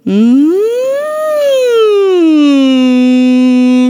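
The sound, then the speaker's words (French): A single voice glides smoothly up in pitch and then slowly back down, holding a steady loud tone like a siren, in a siren-technique vocal warm-up exercise, with no other sounds around it. “Il y a la technique de la sirène.”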